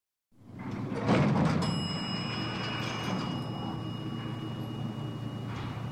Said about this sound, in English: The doors closed and the lift began to go down.